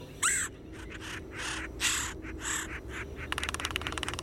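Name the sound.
red-headed woodpecker call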